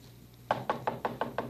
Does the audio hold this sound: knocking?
yes